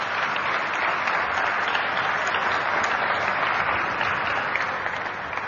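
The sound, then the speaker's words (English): Sustained applause from a large audience following a speech about dharma, a steady dense wash of many hands clapping at even loudness for several seconds, with no voices standing out above it. “A big round of applause, brothers and sisters.”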